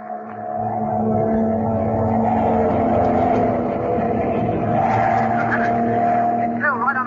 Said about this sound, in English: He's right behind us. Our only chance is to put this plane into a power dive. Here goes.